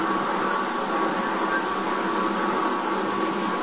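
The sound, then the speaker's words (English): The engine of the submarine X-915 runs under atomic power at sea at about 30 knots, a steady, unbroken mechanical drone with a faint thin whine riding on top, holding an even loudness throughout with no voices. “Engine sound good.”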